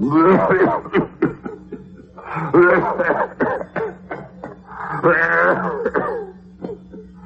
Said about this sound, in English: Oh, dear. Oh, sorry about that, ma'am. That's a very nasty cough you have. That's me aunt, ma'am. Sounded more liquid than that.